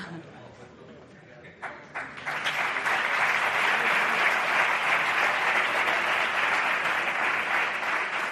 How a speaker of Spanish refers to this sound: Ojo con los aplausos, son 30 premios, a 2 por aplauso por premio, más discursos, lo digo por si queréis ir economizando, ¿vale?